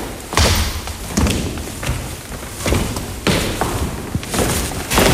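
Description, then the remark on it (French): Footsteps climb the wide wooden stairs of an old school: a steady series of heavy, hollow thuds, about one per second, fairly loud, with a faint shuffling between steps and no talking. “Vous voulez qu'on essaye de monter ?”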